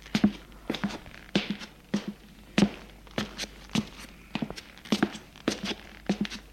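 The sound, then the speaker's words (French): Footsteps of a man going down the stairs after locking the apartment door, a steady run of sharp thuds repeating roughly every half second, with a faint low hum beneath and no voices. “Avoir fermé la porte à clé de l'appartement, il descend les escaliers.”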